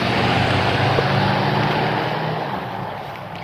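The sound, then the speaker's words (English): A loud, steady truck engine rumble fills the whole stretch, broad-toned, easing off slightly toward the end as the truck moves past. No one speaks. “Get your truck out of the way, buddy.”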